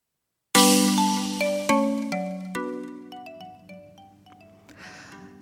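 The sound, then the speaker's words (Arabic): A mobile phone ringtone plays loudly, a bright melodic run of chiming notes stepping up and down over a steady low tone, with no voices. “يلا تليفوني رن ترلان ترلان، واللي ردت يا عيني صوتها أحن.”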